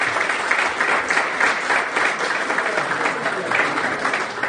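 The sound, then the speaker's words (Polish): An audience applauds steadily to welcome a guest invited up, a dense wash of many hands clapping at an even, fairly loud level throughout, with no voices standing out above it. “Brawa, dla odwagi!”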